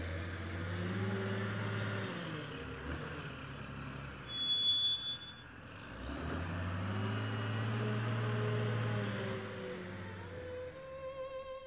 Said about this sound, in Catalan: a la presó provincial de Santander, sota la custòdia del cap del piquet d'execució, el silenci nocturn es trencava amb els camions que transportaven els condemnats a mort.